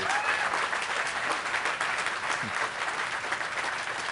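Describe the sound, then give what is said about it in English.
Sustained audience applause for the panelists at the end of a panel event, a dense steady wash of many hands clapping at an even loudness for several seconds, with a few faint voices mixed in underneath. “I'd like a big round of applause for our panelists.”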